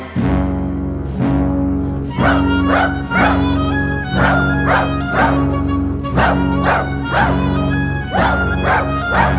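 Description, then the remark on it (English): Dogs bark in a steady, rhythmic series of sharp yaps, roughly twice a second, relaying an all-dog alert message from Regent's Park, over loud sustained orchestral music, sounding urgent and insistent. “It looks like we'd be getting a message from Regent's Park. A message from Regent's Park? Aye! A dog SOS!”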